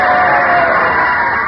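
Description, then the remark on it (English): A crowd of about 18 people cheers at a game between Meatball and Flatfoot as the second half begins: a steady, continuous roar of many voices that stays loud and even for the whole moment, with a slightly muffled, lo-fi tone. “Ah, listen to those cheers, folks.”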